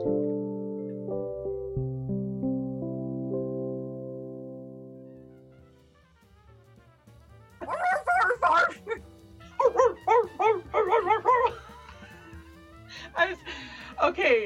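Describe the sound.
After a short musical intro, a string of rapid, loud barks fills the second half in quick, uneven bursts; they sound like a human voice imitating a barking dog.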